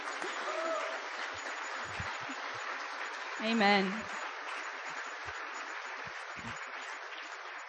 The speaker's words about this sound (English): Isn't it fun to worship God together? Amen. Let's just give God a clap offering this tonight.